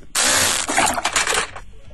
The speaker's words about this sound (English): I was going to say gargling water. Yep.